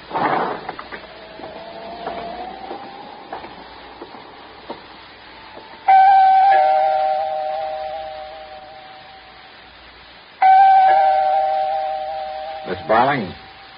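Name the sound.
apartment doorbell ringing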